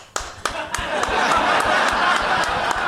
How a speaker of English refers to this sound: Applaud if you saw the most recent Rambo movie.